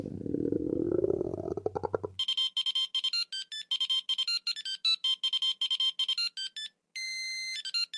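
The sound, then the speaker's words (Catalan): A brief low, rising rumble gives way to a telephone's loud electronic ring, rapid trilling bursts repeating steadily and ending in a longer continuous tone as the call goes through to the answering machine of the Gripau Flau emergency phone, with no voices. “Aquest era el contestador automàtic del telèfon d'emergència del Gripau Flau.”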